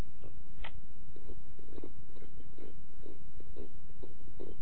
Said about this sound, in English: The quiet night was cut by the clawing sound of the frame. I could hear him chewing on the blue plastic bucket, trying to get to Max food.